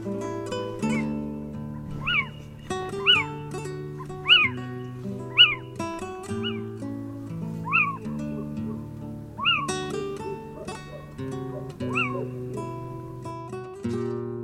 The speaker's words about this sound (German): Das war der Steinkauz.